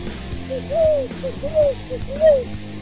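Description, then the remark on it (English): Three rising-and-falling hooting calls from a bird, evenly spaced and fairly loud, heard over a low, steady layered background with no talking. “Oh, what a pretty bird.”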